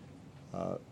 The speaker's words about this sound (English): bless you